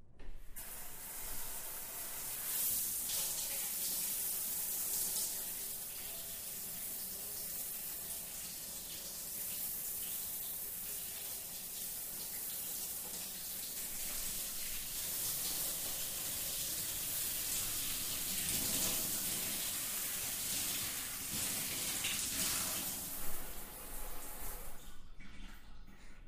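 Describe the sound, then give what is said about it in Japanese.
Steady running water pours and sprays for about twenty-five seconds, a broad hissing rush with slight shifts in texture, as shampoo is rinsed out of a person's hair, with no voices. “じゃ、流すよ。目つぶってて。”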